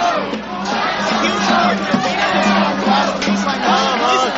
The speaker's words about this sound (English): So the crowd has been chanting, join us. They just threw up a barricade behind us, and some people managed to make it past the barricade, and police are making arrests at the barricade. People are chanting, let us go.